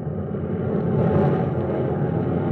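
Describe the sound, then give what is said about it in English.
A heavy, continuous drone of a great wave of propeller transport planes passing overhead at 1:30 a.m., heard from a ship's bridge as they come out after dropping paratroopers on Sicily. It is a dense low rumble that swells slightly in the middle and stays loud throughout, with no voices. “A great wave of planes, our planes, has just swept over us. These were our transports coming out.”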